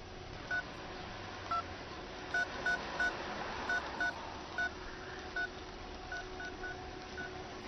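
signal or alarm, phone dialing tones

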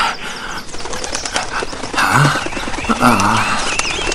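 bird, birds calling

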